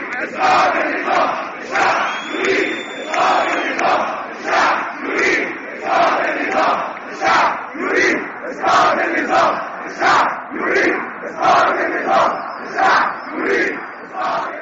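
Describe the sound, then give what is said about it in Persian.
A large crowd of protesters in the Middle East and North Africa chants in unison for the fall of the regime, loud and steady, with a repeating rhythmic slogan pulsing roughly every second and a half, voices blending into a dense roar with occasional whistles above. “معترضین در کشورهای چون تونس، مصر، یمن و الجزایر به خیابانها رفتند و همگی یک خواسته را فریاد زدند.”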